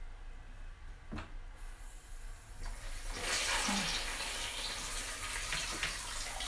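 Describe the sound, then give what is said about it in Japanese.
A shower runs at a gentle, low flow, its steady hiss of spray swelling in about halfway through after a few quiet knocks and bumps. No one speaks. “そうですね、シャワーの音最大だとちょっと聞こえなくなっちゃうと思うので、今弱めの水量です”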